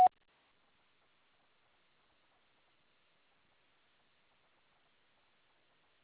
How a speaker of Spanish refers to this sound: Después del tono, grabe su mensaje.